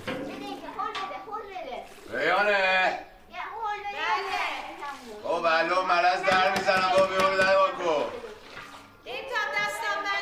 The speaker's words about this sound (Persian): بچه ها تو حوض بازی میکنن.